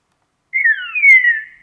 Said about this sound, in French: les oiseaux se répondent en utilisant les thèmes, mais ils gardent leur propre variante du dialecte en question